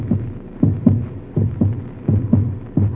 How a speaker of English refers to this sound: Doctor, that's my heart beating like a drum in my ears. It's loud, so loud. Can't you hear it?